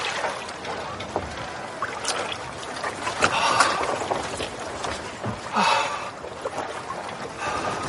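Someone clambers into a small rowboat to go fishing, with wooden knocks, creaks and shifting weight over steady sloshing water, a few louder bumps standing out.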